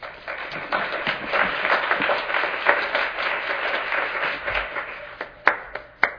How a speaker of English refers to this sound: Please join me once again in giving the entire panel a round of applause.